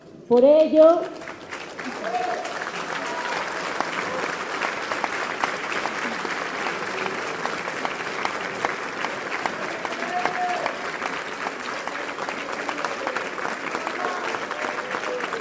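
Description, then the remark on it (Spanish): Sustained audience applause fills the space, a dense steady patter of many hands clapping that continues for several seconds, with a brief loud voice at the start and scattered crowd murmurs underneath; the audience applauds to celebrate 16 years since the uprising of the Zapatista Army of National Liberation. “Ver el entusiasmo que compartimos, porque justamente yo iba a pedirles que nos uniéramos en un aplauso.”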